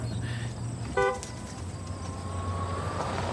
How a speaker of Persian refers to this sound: صدای چی؟ صدای دزگیر ماشین مادرته. خود به خود روشن میشه، خاموش میشه، درست مثل زندگی مشترکمون.